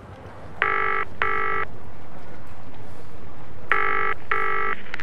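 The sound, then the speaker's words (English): A phone rings in the classic double-ring pattern as a call is placed, two short bursts, a pause, then two more, clear against a low background hum. “Have you got his phone number? Yes, I have. Why don't you call him?”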